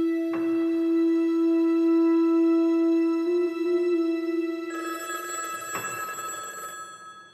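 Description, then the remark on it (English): A telephone bell rings with an incoming call, steadily and loudly for several seconds, its bright metallic tone sustained with a couple of sharp clicks, then shifting to a higher, brassier ring near the end. “The phone rang and they called for me to come and take this call.”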